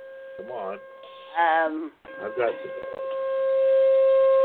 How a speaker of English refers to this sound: What is that? Oh, no. That's the siren. Yeah, she's being tested. Yeah, they're doing our test. The Bartleville siren is. Yeah, it's just right outside of my. It's just about a block away.